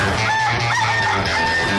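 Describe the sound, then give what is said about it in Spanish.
A rooster crows loudly, one sustained, strained cock-a-doodle-doo filling the short moment with no voices around it. “Ese gallo.”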